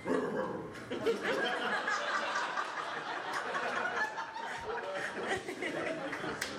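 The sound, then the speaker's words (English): A person imitates the noise their dog makes, a continuous rough, throaty grumbling sustained for several seconds, with faint chuckling mixed in. “I feel like that's a song, the sound your dog makes when it's like eating a body.”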